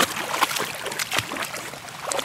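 A dog wades through water, kicking up a run of irregular splashes and sloshing, with no voices over it.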